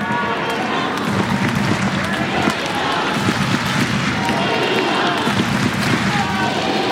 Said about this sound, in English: Crowd trying to give Svitolina one last push.